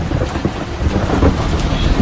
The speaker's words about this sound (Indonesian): Kebetulan malam hari itu hujan sangat lebat dari sore. Jam 8 malam, hujan pun mulai mereda, tapi masih tetap gerimis. Dan suara petir beberapa kali masih menggelegar